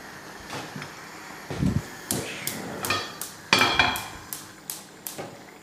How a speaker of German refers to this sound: Das Tack, Tack, Tack, das ist mein Gasofen. Da, wenn ich andere Platten einschalte, dann muss ich das zünden. Bei Gasofen, das ist nicht der Rhythmusgeber für die Musik.